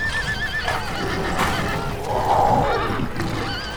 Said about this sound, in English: The Kalormen horses are mad with terror already. Understandably. The cats are in among them.